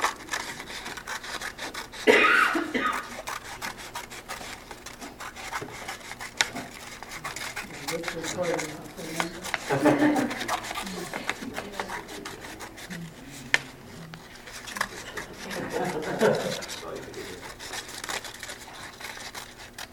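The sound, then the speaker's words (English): Scissors slicing lengthwise through a paper Möbius strip to cut it into three, with repeated rasping, scratchy cutting strokes in irregular bursts and brief pauses, at a moderate level with no voices over it. “Don't try this at home without leprechaun scissors.”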